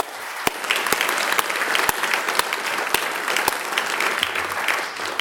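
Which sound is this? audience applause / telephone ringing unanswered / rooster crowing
audience applause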